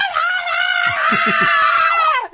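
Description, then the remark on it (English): A person imitates a muffled, tinny scream heard through a phone receiver, recalling a phone scene in the film A Christmas Story: one loud sustained wail lasting about two seconds with a few fluttering pulses before it cuts off. “I'm forgetting what reference it is, but isn't there a movie where you can hear the wife screaming on the phone?”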